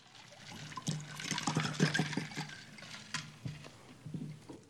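Water is poured, splashing and trickling into a container, followed by a few soft sips and gulps of drinking. No one speaks.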